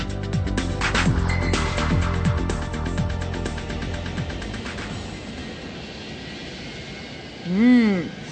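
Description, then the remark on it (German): A loud, steady airplane engine drone as the plane climbs fills the first few seconds, then eases into a softer background rumble, with a brief rising-and-falling tonal swoop near the end. “Zieht der Pilot den Steuerknüppel zu sich hin, bewegt sich das Höhenruder nach oben und das Flugzeug steigt.”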